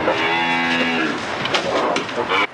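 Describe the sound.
A single loud, drawn-out cow moo, then it fades into a stretch of noisy, rustling background sounds.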